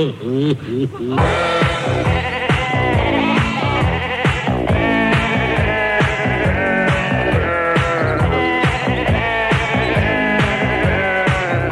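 A loud, crowded chorus of sheep bleating, many overlapping wavering cries filling the whole stretch without a break, dense like a flock packed together.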